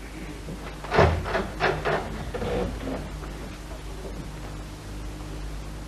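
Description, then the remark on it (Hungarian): A jury room door is opened and swung wide by a court usher with a short run of clattering knocks and rustles as the jurors slowly file out one by one, then fades into a steady, quiet hiss as movement trails off. No one speaks. “Az altiszt kinyitja, majd kitárja az ajtót, és az esküdtek lassan sorjában kivonulnak.”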